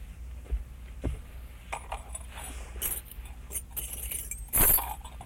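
Keys jangle and clink in irregular little bursts, fairly quiet, with a louder rattling shake near the end and no talking.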